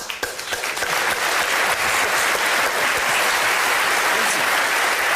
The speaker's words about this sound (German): Also der Martin Schneider, wenn er nichts kann, aber klatschen kann er ja